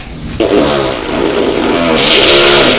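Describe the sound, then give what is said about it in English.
A loud engine-like roar kicks in abruptly and holds steady, its droning tones climbing slightly in pitch, like a train starting up and setting off. No one speaks over it. “Is that the noise that the train makes when it's starting up? When it's setting off?”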